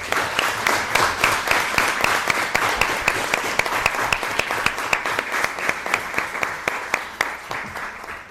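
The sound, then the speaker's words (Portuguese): An audience applauds the elected deputies steadily for several seconds, a dense, even patter of many hands clapping with a slightly rhythmic pulse, holding at a fairly loud level throughout with no voices over it. “e vi em cada um de vós o sentimento de honra com que encararam esta missão e portanto merecem uma enorme salva de palmas também.”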